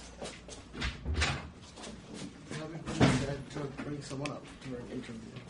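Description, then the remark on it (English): A few sharp thumps of knocking on a door land early and again midway, with people talking and moving around underneath. “Oh, 1 second, it seems we have a knock on the door.”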